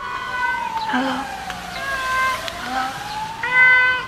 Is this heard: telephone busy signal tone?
no